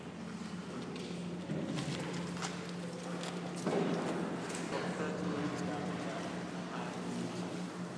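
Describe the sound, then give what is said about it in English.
London Overground trains rumble steadily in the tunnels beneath for the whole stretch, a low droning hum with rhythmic clattering over it that swells briefly partway through before settling back. “And the other noise you hear down here is trains on the London Overground.”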